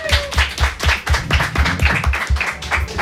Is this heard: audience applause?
yes